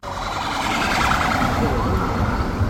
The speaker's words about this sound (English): Videos from witnesses outside the train show emergency services rushing to the station.